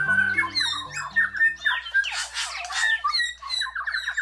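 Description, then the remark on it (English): New Zealand bellbirds (Korimako), 8-inch mossy green birds, call in a forest in New Zealand, ringing out in a dense chorus of clear, bell-like notes and squawky chatter, overlapping continuously at moderate volume with no talking. “A forest in New Zealand rings with the sound of bellbirds, whose indigenous name is Korimako.”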